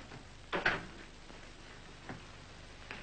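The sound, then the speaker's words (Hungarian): A door closes with a short, quiet double thud, followed later by two faint clicks against a soft background hush. No one speaks. “Csukja be az ajtót.”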